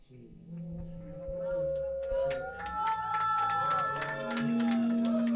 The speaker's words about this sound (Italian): Allora raga, l'applauso dello studio a sancire uno dei momenti più alti della mia carriera radiofonica decennale.